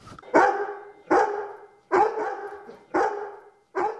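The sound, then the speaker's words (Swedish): Charlie, a guide dog waiting for a grocery delivery, barks five times in a steady, evenly spaced rhythm, each bark loud, full and mid-pitched, with no voices in between. “ledarhund Charlie som uttryckte en viss glädje över väntade matleveranser.”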